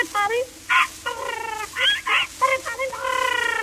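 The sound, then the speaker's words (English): A rapid run of shrill, chattering squawks from a toy parrot (a Poll Parrot), loud, with bending pitch and short squeaky bursts stacked one after another for a few seconds. “And a Poll Parrot for the little boy who lives in the garret.”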